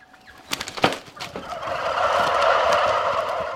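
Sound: turkeys gobbling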